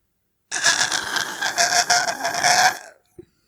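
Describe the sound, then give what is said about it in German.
A person makes one drawn-out, strained groaning noise while stretching after waking up, like a stretching yawn, raspy and fairly loud for about two seconds, then it trails off and a brief soft click follows. “Und man lässt sich so ganz viel Zeit und dann streckt man sich so und macht dieses merkwürdige, undefinierbare Geräusch, dieses.”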